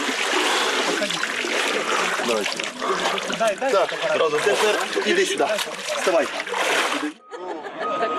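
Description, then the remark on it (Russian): Water splashes and sloshes steadily as pilgrims wade and dunk into the Jordan River in Jordan after a prayer service, at the site of the Baptism of the Lord, with a lively crowd of voices chattering and calling out over the splashing throughout. “После молебна паломники окунаются в воды священной реки.”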